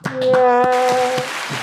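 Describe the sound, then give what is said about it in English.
A handful of steady, evenly spaced hand claps, about six in quick rhythm, with a sustained high voice or cheer held over the middle of them. “Let's clap it up”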